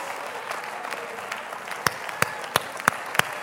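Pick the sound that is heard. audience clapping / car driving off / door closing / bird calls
audience clapping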